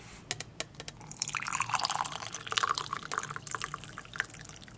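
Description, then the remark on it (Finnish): Organic cheesecake tea from Sweden trickles and splashes steadily through a sieve, a bright, crackling patter that swells in the middle and scatters into small drips, with faint clinks and no talking. “Nyt sä sihtaat sen. Joo, mä teen siivilällä siitä.”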